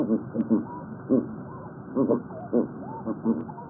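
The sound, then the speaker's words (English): Ringed seal calls underwater: a string of about eight low, hoarse, barking yelps in an irregular rhythm, with faint rising whistle-like tones drifting between them over a muffled background. “Seals like the ring seal you just heard are listening too.”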